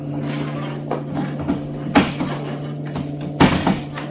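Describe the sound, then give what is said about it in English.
A heavy table is shifted across a floor into the center, giving a few dull wooden thumps and knocks at irregular moments, two of them louder, over a steady low background hum. “That table. Let's get it out here, right in the center of the floor.”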